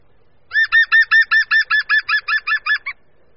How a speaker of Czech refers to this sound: Poslechněme si proto pro srovnání obě žluny. Nejdříve pokřik žluny zelené.